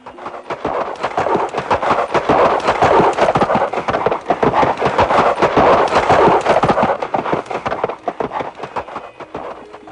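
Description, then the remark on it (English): Heavy donkey hooves gallop in a rapid, continuous pounding, loud, with a rumbling quality that shakes the whole ground, holding steady for the whole stretch before easing slightly at the end. “that donkey demon living there, heard the sound of the fruits falling and came running quickly, making the whole ground shake.”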